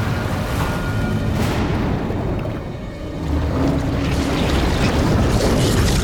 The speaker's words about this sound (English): Under the water, another explosion rips across the deck of the stricken ship. The hull, exposed to the night air, shifts slightly in the water.